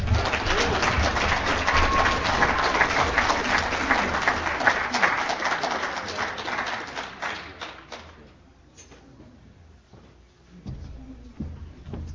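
A crowd applauds steadily with dense, loud clapping for several seconds, then the clapping thins out and fades to scattered claps and quiet room noise.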